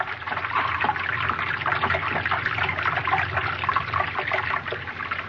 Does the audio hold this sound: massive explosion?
no